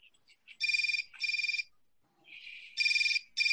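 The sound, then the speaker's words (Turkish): A mobile phone alarm ringtone rings from a phone beside a bed, in repeated bright electronic bursts, each with a rapid trilling pulse, fairly loud, with brief softer tones between bursts and no talking. “Yatağın yakınındaki telefon cep telefonu çalmaya başlıyor.”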